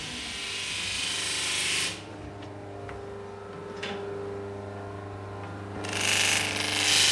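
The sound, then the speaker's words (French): A rotary sander, with sandpaper fixed on the machine, smooths the edge of a fingerboard, running with a steady motor hum, rising into loud, harsh grinding bursts at the start and again near the end, easing to a lower drone in between. “Et c'est une ponceuse rotative qui est très pratique.”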